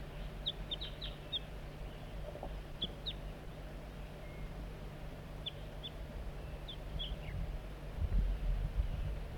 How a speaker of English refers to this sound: Bird 4-3 coaxing the juvenile in with soft flight calls. Sound a little bit strange.